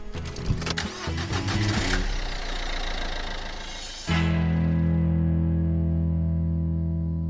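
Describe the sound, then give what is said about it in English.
A car engine cranks with a rough, grinding churn for about four seconds, then catches and settles into a loud, steady idle hum; the car is in Geelong. No voices. “I'm sitting in the car in Geelong”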